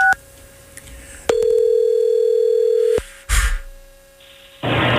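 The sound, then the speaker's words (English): A phone call to a woman's number: a few quick dialing beeps, then a loud, steady ringing tone lasting nearly two seconds, cut off by a click as the call connects to voicemail, followed by hiss. “So maybe we could get her on the phone and just get to the bottom of this real quick.”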